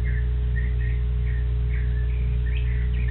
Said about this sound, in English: That's more singing than I've heard. I don't know any fall. They don't know it's fall, do they, those birds? They think it's still summer. They're so happy.